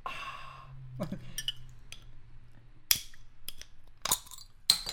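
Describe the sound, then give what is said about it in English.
A bottle is popped open in front of a microphone: an initial breathy hiss, then a few sharp, loud pops spaced a second or so apart, with faint fizzing and low rumble between them. “Just pop it open in front of the mic.”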